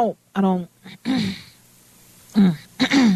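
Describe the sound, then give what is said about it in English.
A few short, gruff, loud throat-clearing bursts from a voice, spaced with brief pauses, with a quiet stretch in the middle. “I'm clearing my throat waiting for you to say something.”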